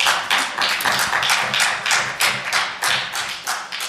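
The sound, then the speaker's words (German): An audience breaks into steady applause: many hands clapping in a dense, crackling wash that stays fairly loud and even for several seconds, with no voices heard. “Im Sinne eines Applaus, also bitte.”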